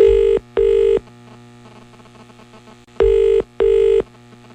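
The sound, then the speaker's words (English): An outgoing phone call across the sea to a member of a band rings: two pairs of short, steady double-pulse ring tones, separated by a pause of about two seconds, over a constant low electrical hum. Nobody speaks. “is going to make our phone call across the sea.”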